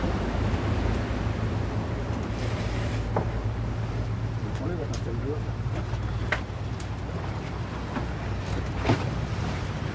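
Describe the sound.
Waves lap and slosh steadily under a bridge at Val-de-Seine, Île Saint-Germain, Paris, over a constant low rumble like a passing boat, with scattered sharper splashes and faint voices in the background.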